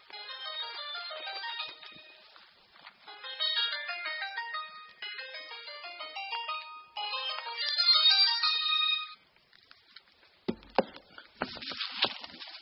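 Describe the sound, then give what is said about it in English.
A mobile phone ringtone plays a bright, repeating electronic melody for about nine seconds, fairly loud, followed by a few seconds of rustling and handling noises as the phone is turned off. “My phone started ringing.”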